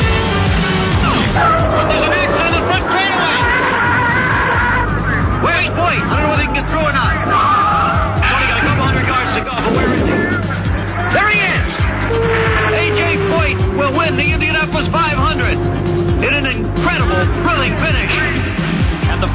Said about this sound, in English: Over the roar of the engine, you can hear the 400,000 people going hoarse. No one has ever seen this before in Indianapolis.